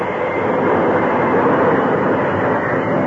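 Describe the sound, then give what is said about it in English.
A steam train rumbles loudly, a dense steady roar of wheels and machinery that holds for a few seconds as the brakes are applied and the train comes to a stop, with no voices. “As with the help of the engineer, he applied the brakes and found the train coming to a stop.”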